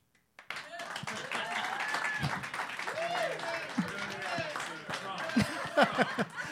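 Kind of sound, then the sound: crowd, round of applause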